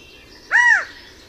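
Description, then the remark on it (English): A single loud, arching territorial call from a male California quail near a small wetland rises and falls over about a third of a second, standing alone against a quiet outdoor background. “Listen as this male announces his territory near a small wetland, also claimed by red-winged blackbirds.”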